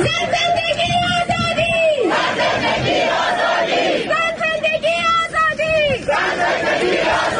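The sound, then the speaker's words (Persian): A large crowd at a rally in Ottawa, Canada, held in solidarity with the protests in Iran and attended by Prime Minister Justin Trudeau, chants loudly in unison, voices rising and falling in repeated sustained phrases, with a dense roar of shouting and cheering between chants. “جاستین ترودو نخست وزیر کانادا و همسرش روز شنبه 7 آبان در تجمع همبستگی با اعتراضات ایران در اتاوا شرکت کردند.”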